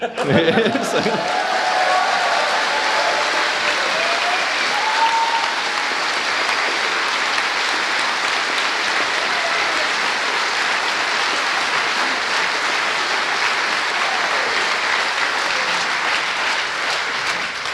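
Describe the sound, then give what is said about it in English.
A large audience applauds to thank the organizing team, a dense, sustained wash of clapping that stays loud and even for the whole stretch with no voices standing out. “So I'm going to make you clap again.”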